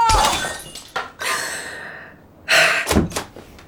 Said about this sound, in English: That ugly vase you bought me in Honduras, it broke.